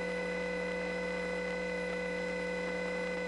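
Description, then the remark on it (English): A steady, low electrical hum with sustained tonal harmonics and faint background hiss on an idle telephone line, changed because a crossbar 5 line is off the hook in the neighborhood, continuous and unchanging with no voices. “The noise of the idle line has changed now, and that's because a crossbar 5 line is off the hook in the neighborhood.”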